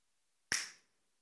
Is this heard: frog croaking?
no